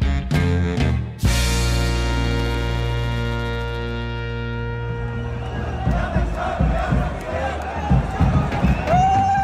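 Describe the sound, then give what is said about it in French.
Members of the Syrian diaspora in the streets of Berlin celebrate the fall of the dictator after the capture of Damascus on 8 December, with loud, sustained high-pitched ululating cries at first, which then give way to a dense mass of cheering, shouting voices and excited chatter. “Des cris et des youyou pour célébrer la chute du dictateur, la diaspora syrienne a manifesté sa joie dans les rues de Berlin à l'annonce de la prise de Damas le 8 décembre.”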